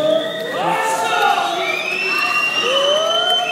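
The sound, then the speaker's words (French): At a company general assembly, a crowd whistles in disapproval at the director general as he steps up to the podium, many shrill overlapping whistles sliding up and down in pitch over a steady murmur of voices, loud and continuous throughout. “Voilà, le directeur général qui s'avance vers la tribune, qui se fait siffler.”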